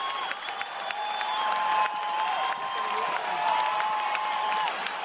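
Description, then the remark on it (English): A large crowd at the 2013 U.S. Open final between Rafael Nadal and Novak Djokovic roars and applauds wildly in the final moments, a dense, steady wash of clapping and cheering with whistles and shouts rising through it for the whole stretch. “The tennis crowd going wild there in the final very un-Wimbledon moments of the Rafael Nadal-Novak Djokovic U.S. Open final in 2013.”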